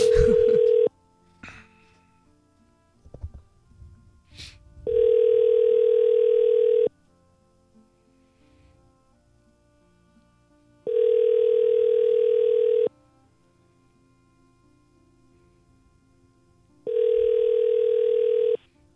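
A phone's ringback tone repeats in steady two-second electronic beeps separated by pauses of about four seconds, clear and fairly loud, with a few faint clicks and rustles early on.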